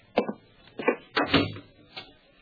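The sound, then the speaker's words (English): An apartment door swings shut with a few solid clunks and rattles of the latch and handle, spaced over a couple of seconds, then a softer final click. No one speaks. “Close the door.”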